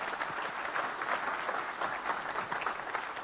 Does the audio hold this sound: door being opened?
no